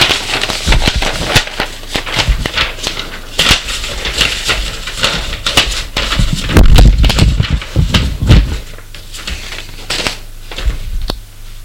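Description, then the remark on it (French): Busy rustling and shuffling of papers over the whole stretch, with crisp crackles and a few heavier thuds midway, as a man tidies his papers, like sheets being stacked and tapped on a desk. “Il range ses papiers.”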